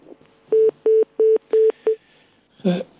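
A telephone busy tone after a caller to a live radio call-in program hangs up: five short, evenly spaced electronic beeps, loud and clear, followed by a brief burst of a voice speaking.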